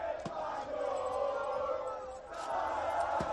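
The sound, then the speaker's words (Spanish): A crowd of Spanish football fans shouting and chanting together in the streets of Cantabrian towns such as Santander, Torrelavega, Astillero and Comillas, celebrating Spain's Euro final win over England late into the night, a dense, sustained roar of many voices that dips briefly before swelling again. “Gritos como estos se han podido escuchar hasta bien entrada la madrugada en localidades como Santander, Torrelavega, Astillero, Comillas.”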